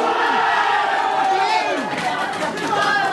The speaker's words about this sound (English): Right. Get ready, here we go into the door. Huge crush of people. Pushing into this one little classroom.